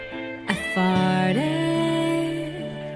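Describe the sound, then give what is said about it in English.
A playful, comedic family joke song, an ode to farting, carries on with sustained, melodic notes that slide between pitches after a sharp opening hit, steady and fairly loud. “her friend recorded a family joke song that's an ode to farts”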